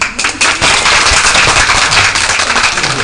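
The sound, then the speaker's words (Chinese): A crowd bursts into steady applause, dense overlapping claps forming a loud, continuous wash of sound with no voices audible throughout. “哎，我觉得好像有很多人想鼓掌，不敢鼓掌，为什么怕呢？”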